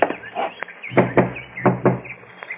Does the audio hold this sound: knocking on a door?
yes